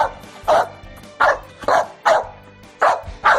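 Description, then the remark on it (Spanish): An American Bully dog barks six times in quick, fairly regular succession: loud, deep woofs with short pauses between them and no talking. “Y es que los ladridos de este American Bully han salvado la vida de sus dueños, cuya casa, fíjate, está situada en la planta baja de un edificio de Alcalá de Henares y estaba siendo arrasada por un incendio”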